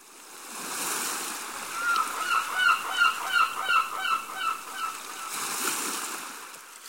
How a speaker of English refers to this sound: He can smell the sea, and he can hear birds above him.